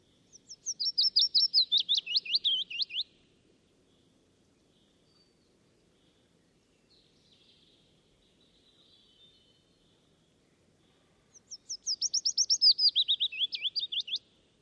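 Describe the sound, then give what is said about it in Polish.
A willow warbler sings two clear, sweet phrases, each a cascade of notes sliding gently downward, separated by about eight seconds of near silence with faint bird chatter. “Więc posłuchajcie piecuszka nagranego.”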